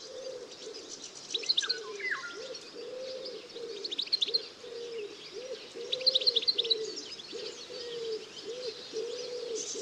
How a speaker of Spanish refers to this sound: Y arrulla la paloma torcaz.